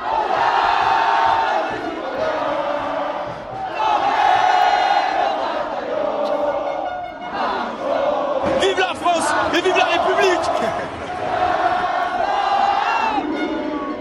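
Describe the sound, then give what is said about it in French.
A large crowd of fans in France celebrates the French football team winning the World Cup 4-2 against Croatia, chanting and shouting in loud, sustained waves, voices rising and falling together in a rhythmic celebratory chorus, with bursts of whistles and cheers around the middle. “Nuit de fête partout dans le pays, les drapeaux, les klaxons, les chants.”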